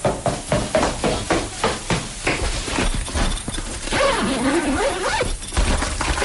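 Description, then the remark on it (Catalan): Quick, regular footfalls of someone running down stairs, then keys jingle as they are picked up, a zipper rasps open, paper rustles, and a door opens as the person leaves, all busy with no talking. “Algú baixa unes escales, corrent, agafa unes claus, obre una cremallera, agafa el que sembla un paper, obre una porta i se'n va.”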